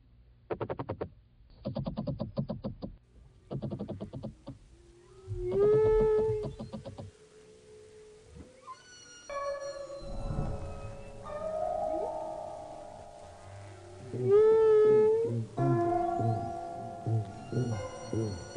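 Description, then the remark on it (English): An underwater chorus of frogs, seals, harp seals and other aquatic animals: bursts of rapid pulsing croaks, then overlapping whistles, sliding trills and warbling calls, fairly loud, with no one talking. “But it's many sorts of aquatic animals, including frogs and seals and harp seals.”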